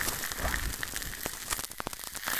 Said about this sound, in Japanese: いかがですか？シュワシュワとした炭酸の音に包まれる感じ、気持ちいいですよね。